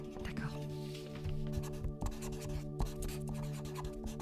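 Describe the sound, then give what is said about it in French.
Scratchy strokes of a pen moving across paper in short, irregular bursts as someone writes freely whatever comes to mind, set against a steady low background hum. “Alors voilà, prenez un papier et un stylo et vous allez écrire pendant 2 minutes sans réfléchir.”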